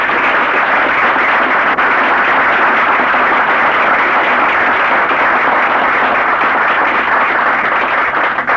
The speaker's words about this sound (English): and I would like to give her a big applause for being there.